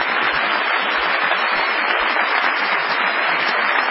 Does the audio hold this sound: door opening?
no